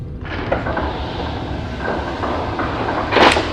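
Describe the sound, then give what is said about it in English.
A heavy door rumbles and scrapes open over a few seconds as a man walks through it, with a steady grinding drone and a louder scraping burst near the end. No one speaks. “When he is done, he walks through the door.”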